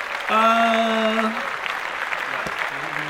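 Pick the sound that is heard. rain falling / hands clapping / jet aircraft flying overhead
hands clapping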